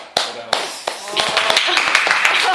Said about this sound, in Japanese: ありがとうございます。めっちゃ拍手してます。やった。 2000人ぐらいいますんで。